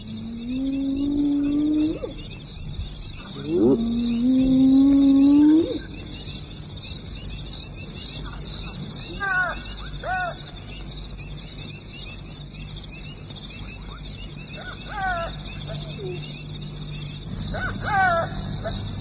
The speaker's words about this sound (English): those frustrated pallbearers, the hyena and the jackal, set up a mournful chorus.